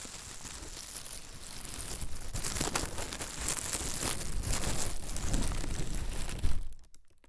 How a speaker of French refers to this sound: Vous êtes peut-être en train d'étouffer. Un sac plastique sur la tête.